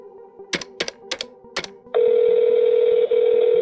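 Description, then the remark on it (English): A phone number being dialed: five quick button beeps in an uneven rhythm, then a steady, loud electronic line tone that holds with one brief break. Clear, with no talking. “Ah, here it is. Always forgetting phone numbers.”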